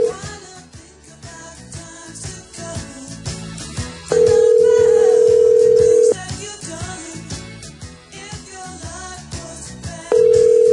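A phone call being placed again to a club after the line disconnected: a steady, mid-pitched ringback tone sounds in loud two-second bursts separated by roughly four-second gaps, over busy background music with no talking.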